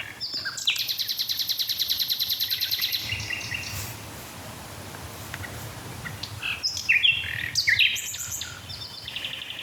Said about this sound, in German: Nochmal nachgelesen, es sind 300 Motive, die man bei einer einzigen Nachtigall gezählt hat. Und wenn man sich dann die Kombination aus diesen 300 Motiven vorstellt, es ist eine Zahl, die ist unfassbar hoch.